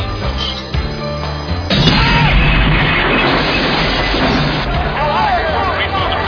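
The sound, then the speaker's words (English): A sudden, loud gas explosion bursts in after a moment of background noise, followed by a sustained roaring rumble and crashing debris, with shouting voices rising through the chaos. “Major gas explosion. Keep clear of the main building.”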